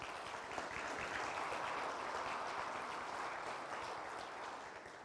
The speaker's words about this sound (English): So way to go. Grown-ups, let's give the kids all a round of applause, please.